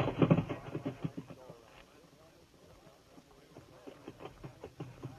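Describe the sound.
The hooves of several prancing cavalry horses clip-clop in a steady, uneven rhythm at moderate volume, with indistinct voices and outdoor noise mixed in throughout.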